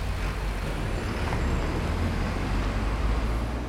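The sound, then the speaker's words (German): Dense road traffic roars steadily and loudly throughout, a constant low rumble of passing vehicles that swamps any quieter electric car among them; no one speaks. “Habt ihr das Elektroauto noch gehört?”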